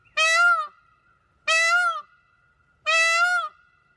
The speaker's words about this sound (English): It is a bird, yeah. Kind of sounds like a bird saying help, but it's not that. It is a peacock call.